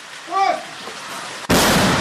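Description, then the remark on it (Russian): A brief shouted voice, then a single loud mortar shot bursts out suddenly and its heavy roar carries on to the end, fired by a mortar crew on the outskirts of Bakhmut, in the village of Ivanivske, during an assault. “Выстрел за выстрелом. Минометы не успевают остывать.”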